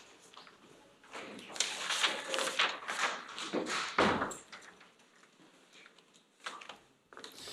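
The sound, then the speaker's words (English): A door is pushed shut during a physics lecture: a few seconds of scraping, sliding movement ending in a solid thud, followed by quieter shuffling and a light tap, with no talking. “Now, can you please close that door there?”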